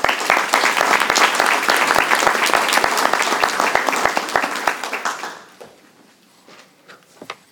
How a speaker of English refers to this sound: And a nice round of applause.